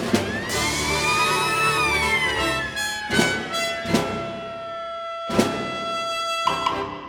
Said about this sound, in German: dass das Orchester hinter einem Vorhang spielen soll, weil man sollte nicht sehen, dass da auch Sandbüchsen verwendet werden und am Schluss eine Sirene spielt.